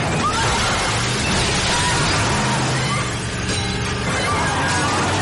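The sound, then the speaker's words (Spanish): A vehicle, the first of a convoy, swerves and smashes through a bank's plate-glass windows, a loud, unbroken din of shattering and crunching over a low rumbling roar that carries on for several seconds. “De pronto, el primero de los vehículos gira hacia las cristaleras del banco.”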